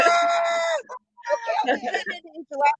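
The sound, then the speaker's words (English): An angry chicken squawks loudly: one long, drawn-out shriek, a brief pause, then a burst of harsh, agitated squawks and clucks. “Chicken, and he's mad.”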